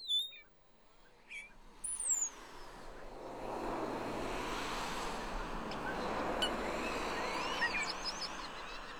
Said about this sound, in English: This is the car park at Hengistbury Head in Dorset. I had been asked to record the song of the skylarks, but when I arrived, I was greeted by the delicious radiophonic static of starlings.